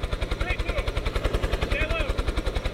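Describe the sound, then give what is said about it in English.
A Kentucky State Police rescue helicopter, used to rescue four college students trapped in snow, passes overhead, its rotor blades thumping in a fast, steady rhythm with a loud engine whine, while a muffled voice briefly comes through underneath. “Four college students were rescued by a Kentucky State Police helicopter Monday.”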